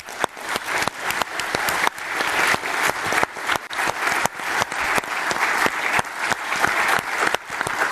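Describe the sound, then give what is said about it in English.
A sustained round of audience applause at the close of a conference, for all presenters and submitters, dense steady clapping from many hands at a fairly loud, even level for the whole stretch, with no voices above it. “And therefore, first of all, thank you and a very big round of applause to all presenters and submitters who made this conference possible.”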